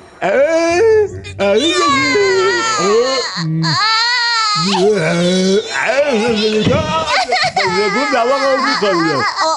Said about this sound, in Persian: کوچولو کوچولو گریه نکن، بیا بغلم بخواب.